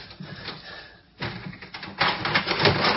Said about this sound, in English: Got it! Yes, you've unlocked it. You mean I'm... Yes, I just unlocked it.